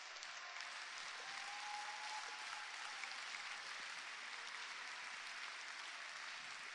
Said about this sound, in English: I think you can clap better for Reverend Mrs.